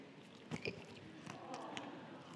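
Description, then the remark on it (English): Crunchy chewing of locusts: a few sharp, brittle crunches spaced unevenly over a couple of seconds against a steady low background hiss, with no talking. “But basically, John, I'm going to be chewing those locusts for a while.”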